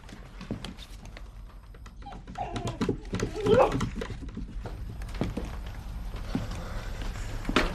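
A dog scrambles out through a door that has just been opened, its paws clattering quickly across a hard floor, with a brief whine or yelp partway through and scuffing movement continuing afterward.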